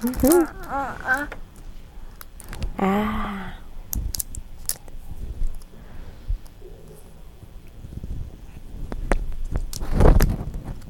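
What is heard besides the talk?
keys jingling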